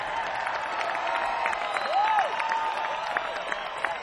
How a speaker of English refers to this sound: I think I deserve a round of applause for that.